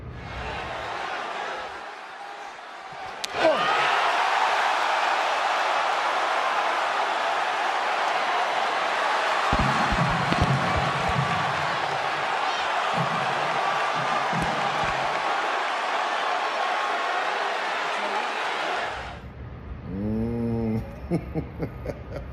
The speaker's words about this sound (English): Well done, Cody Rhodes. The Rock has been waiting for you to man up, giving him a challenge that's worthy of the great one. Ooh, that was a good slap too.